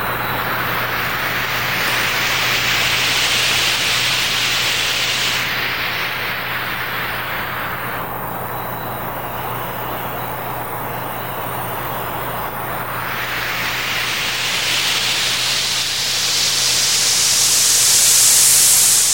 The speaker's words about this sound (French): quand on entend une chute d'eau qui coule. Je trouve que ça fait un bruit de white noise ou de bruit blanc, là, appelez-le comme vous voulez. Puis c'est ça. Mais on va l'écouter.